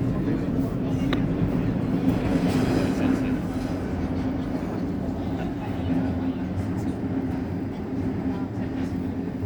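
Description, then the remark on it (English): A metro train to Abbiategrasso rumbles steadily along the track between stations, approaching the Gioia stop, a loud, continuous low roar with a humming drone and faint rattles throughout. “Prossima fermata, next stop, Gioia.”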